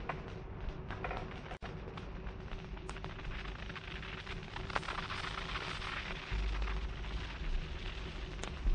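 A loud explosion sound effect: a dense, sustained roar of crackling, rumbling noise that continues for several seconds, with a deeper low boom surging toward the end. No voices.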